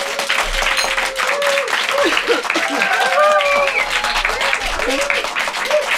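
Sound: audience applause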